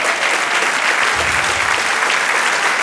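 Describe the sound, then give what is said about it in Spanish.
An audience claps steadily for the Lord, a dense, loud wash of many hands applauding together for the full few seconds, with no voices rising above it. “Del aplauso al Señor.”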